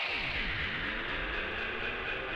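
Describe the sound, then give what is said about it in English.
A dense, steady wash of guitar feedback noise, made by mistake on an original demo with a plugged-in guitar and then looped, hissy and bright, with swooping, phasing tones sweeping up and down beneath it as the texture repeats without a break. “I think I had plugged in my guitar to make a guitar line over the top. Didn't work, and I guess all the feedback made that noise, which then I just looped.”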